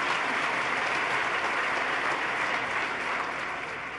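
Steady, dense applause from an audience, another round for Barbara Fiala, a continuous crackle of many hands clapping at an even loudness that fades only slightly near the end, with no voices.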